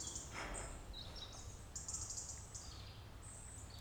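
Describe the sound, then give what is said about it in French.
Birds sing outdoors on a quiet farm in the countryside, high chirps and twittering trills coming and going over a steady low rural hum, with faint insect-like buzzing. “Et là, vous voyez, tout de suite, à part les oiseaux qui chantent, il y a une centaine de bestioles dans les bâtiments, c'est le silence complet.”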